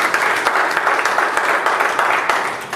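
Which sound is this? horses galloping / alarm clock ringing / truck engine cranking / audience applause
audience applause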